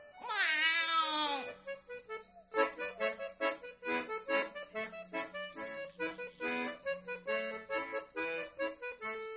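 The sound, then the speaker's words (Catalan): A kitten meows loudly and insistently, crying to be let out, opening with one long drawn-out wail, then a rapid run of shorter, urgent cries that continue without pause. “Si no em deixes sortir, ploraré i cridaré fins que despertaré tothom.”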